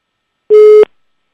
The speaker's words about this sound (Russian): Абонент не отвечает.